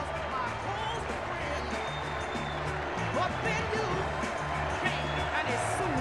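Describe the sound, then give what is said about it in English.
A large crowd at the convention in Charlotte, North Carolina applauds and cheers in welcome for Vice President Joe Biden, a steady, dense roar of clapping and shouting, with a few whistles rising above it and murmured voices mixed in throughout. “The crowd is giving him a warm welcome there in Charlotte, North Carolina.”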